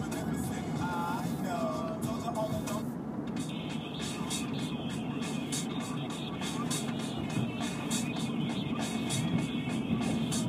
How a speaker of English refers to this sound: It's back way to the shopping center. No one ever takes it. Except for, like, the handful of cars that are taking it with me right now.